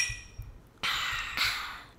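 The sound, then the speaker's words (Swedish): Two glasses of tequila with pink lemonade clink together in a toast in Los Angeles, two bright ringing taps about half a second apart, fairly clear against a quiet background with no talking. “Kan vi ta en bann? Ja, vi tar en skål.”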